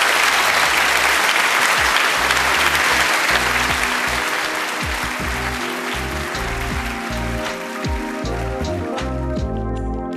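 An audience at the Sydney Writers' Festival claps for author Yael van der Weyden in dense, sustained applause, a bright crackling wash of many hands with no voices, holding fairly loud for the whole stretch while low tones hum underneath toward the end.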